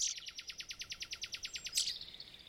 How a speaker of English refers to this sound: Yet when you hear a robin's song clear and bright, it's hard not to pay attention and enjoy it.